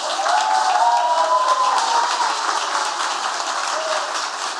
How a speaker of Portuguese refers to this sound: E eu queria falar, já que é moção de aplausos, eu queria repetir os nomes, né? E que a gente pudesse dar uma salva de palmas bem forte.